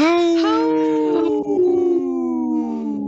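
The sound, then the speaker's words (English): Four human voices imitate wolves, howling together in long, sustained, gliding tones that waver and slowly fall in pitch, loud and overlapping for about three seconds. “Howl! That didn't sound like four people.”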